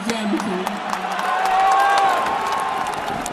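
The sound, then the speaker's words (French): A big stadium crowd roars and cheers, chanting Maradona's name, voices blending into a sustained wash of shouting with a rising chant-like tone, swelling slightly in the middle before holding steady. “Quand tu vois tout un stade qui crie ton nom comme ça, j'ai mon cœur qui va exploser.”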